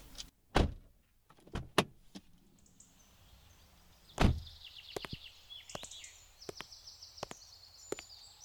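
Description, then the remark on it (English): Someone climbs out of a car in a garage: a door unlatches with clicks, then heavy door thuds follow, with a few lighter knocks and faint high squeaks in a quiet space. No one speaks. “Now get out of the car slowly.”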